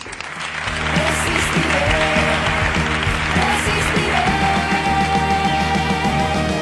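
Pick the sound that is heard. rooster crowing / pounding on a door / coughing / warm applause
warm applause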